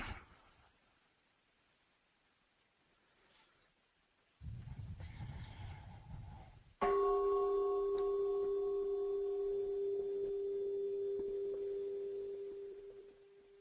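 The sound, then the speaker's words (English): A single strike of a meditation bell, invited during a Buddhist Dharma talk, rings out with a clear, low-pitched tone and shimmering overtones, sustaining and slowly fading for several seconds. A soft rumbling shuffle comes just before the strike. “I will invite a bell.”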